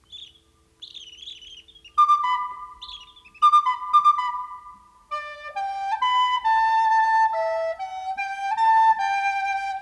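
Forest birds chirp and sing: quick high twittering calls at first, then clear, ringing whistled notes in a steady melodic run, fairly loud with no voices.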